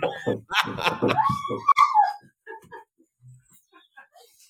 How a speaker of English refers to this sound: So, with the dog going nuts in the background.